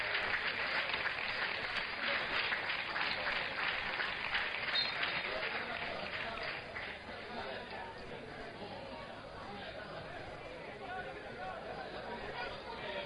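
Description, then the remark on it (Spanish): Football fans of Recre and Ayamonte applaud steadily amid crowd chatter as players Juanito and Diawara are substituted off, the clapping strongest for the first six seconds before easing into a softer, continuous murmur of clapping and voices. “Los dos aplaudidos por la afición, tanto del Recre como del Ayamonte.”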